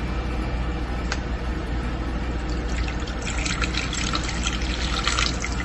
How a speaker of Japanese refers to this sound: まずは水を、カップラーメンとか水入れすぎると、最悪なるじゃないですか。ね、水入れますね。